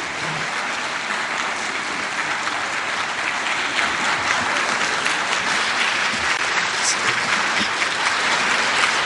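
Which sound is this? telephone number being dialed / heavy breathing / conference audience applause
conference audience applause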